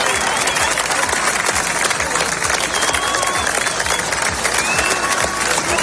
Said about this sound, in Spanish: En Plasencia y Hervás, decenas de vecinos han despedido con aplausos y mucha emoción a los equipos de extinción y a los voluntarios que han combatido las llamas en la región.